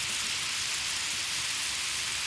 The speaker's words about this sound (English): A gentle crackling sound. It gets louder, building to a... Water sprays out of a brittle overhead pipe.